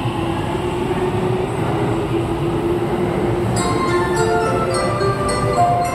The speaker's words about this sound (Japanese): お待たせいたしました。1番線に区間快速つくば行きが参ります。 ご注意ください。